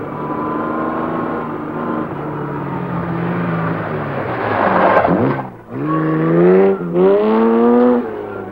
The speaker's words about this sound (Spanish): Es de noche, Jan conduce a gran velocidad el coche deportivo por un camino de tierra.